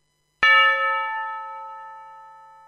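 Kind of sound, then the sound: signal or alarm, church bells ringing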